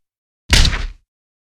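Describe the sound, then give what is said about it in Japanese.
A quick flurry of punches to the face thuds home in a single dense half-second burst, hard blows blurring together before cutting off into silence, with no voices. “それくらいの判断ができないんだったら、このままラッシュ叩き込んで寝かせてあげますよ。”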